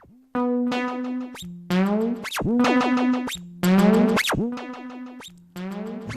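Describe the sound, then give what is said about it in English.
A buzzy synthesizer run through a delay unit and a distortion unit plays sustained tones that swoop and glide in pitch, with echoing repeats stacking up in loud bursts over about six seconds, no voices present. “Yeah, we can have fun all day with this delay unit.”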